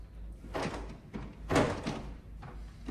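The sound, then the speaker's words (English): A locked bedroom door being tried: a handful of dull knocks and rattles as it is pushed and pulled against its frame, moderately loud, with one firmer thud in the middle. “puts it on, then goes to open the bedroom door.”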